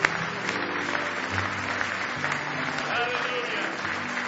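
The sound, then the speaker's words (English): An audience claps steadily, giving the Lord a hand clap of praise in the morning, in a dense wash of applause that stays even throughout, with some voices and low tones mixed faintly beneath the clapping. “Now give the Lord another hand clap of praise this morning.”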